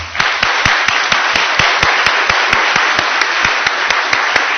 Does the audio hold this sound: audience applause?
yes